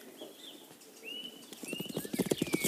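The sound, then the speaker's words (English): Horse hooves clip-clop in a quickening rhythm as a rider gallops, growing louder, with faint high whistling tones drifting above the hoofbeats. “You're riding like a girl!”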